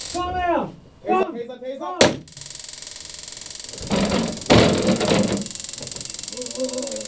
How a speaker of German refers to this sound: Taser! Leisten Sie keinen Widerstand! Arme auf den Rücken oder ich setze nochmal Strom ein!